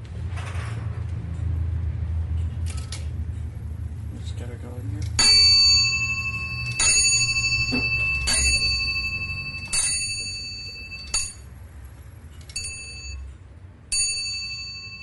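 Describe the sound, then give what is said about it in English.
An antique repeating clock, set off by pulling a cord, strikes the hour or quarter on bells: about seven bright, ringing chimes at irregular intervals, each decaying slowly, over a low background rumble after a few quiet mechanical clicks. “you will get whatever hour or quarter struck on bells that it happens to be”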